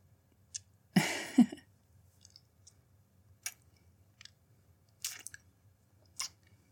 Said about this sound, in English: And sip at my hot chocolate, of course.